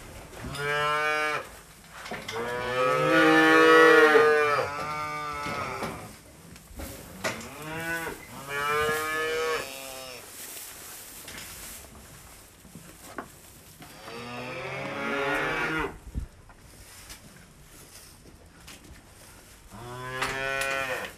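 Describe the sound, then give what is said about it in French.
Several calves, two to three months old, moo repeatedly, their calls overlapping in drawn-out bleating bellows, some loud, others fainter, with brief pauses between bursts and no talking. “C'est des veaux qui ont 2 mois.”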